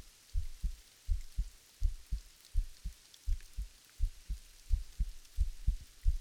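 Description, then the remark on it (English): A fast, pounding heartbeat thumps low, each beat a double lub-dub, repeating steadily about ten times over a faint background hiss. “Hey, my heartbeat. It must be really loud right now.”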